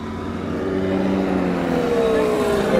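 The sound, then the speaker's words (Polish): A paramotor engine flying over the seaside: a steady, droning small engine hums continuously, its buzzing tone slowly shifting in pitch as it moves across, with a constant rough mechanical whine and no other sounds. “Para motolotniarz leci.”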